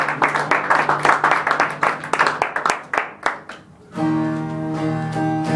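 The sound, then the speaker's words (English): A crowd claps together in a steady rhythm during worship, loud, the clapping thinning to scattered hits before sustained keyboard chords swell in and take over. “Keep clapping. Keep clapping.”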